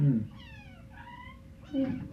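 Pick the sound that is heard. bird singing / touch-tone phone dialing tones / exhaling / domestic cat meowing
domestic cat meowing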